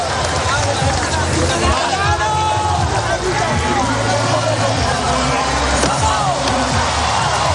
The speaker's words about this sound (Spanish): Esos son los gritos del equipo de Carlos Alcaraz felicitándole, abrazando a Carlitos y celebrando la gran hazaña.